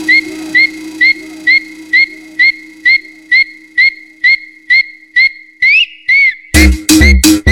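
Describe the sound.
A sharp whistle repeats in a steady rhythm, a short rising-and-falling chirp about fourteen times over a low background hum, before louder, noisier sounds take over at the very end.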